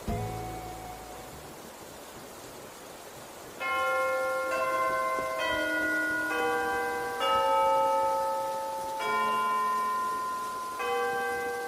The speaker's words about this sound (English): At the top of each hour, the current song that's playing will conclude. The clock tower in the village plaza will chime, then the next song will begin.